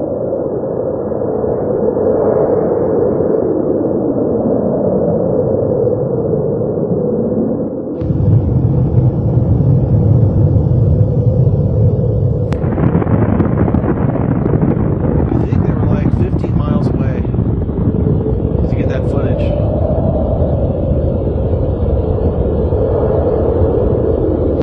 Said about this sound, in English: In fact, I brought this video here. This is called Tsar Bomba. This is the largest explosion done by the Russians.